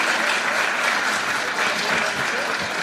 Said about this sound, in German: Ein kleiner Applaus für Detlef Scharke.